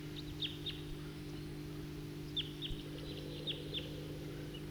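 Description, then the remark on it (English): A male wild bird perched on top of a tall tree calls in short, high, quick chirps: a brief burst of three, a pause, then a longer run of similar notes, all fairly faint over a steady low hum. “I just played that back, and while I did that, a number of type 2 birds flew over and went to the southeast, and meanwhile the bird I just recorded is still here.”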